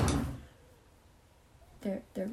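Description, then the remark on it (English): A drawer slides open with a short scraping rumble as someone retrieves two envelopes from it, followed by quiet room tone and two brief bursts of someone's voice. “For March 2021, I have them in my drawer.”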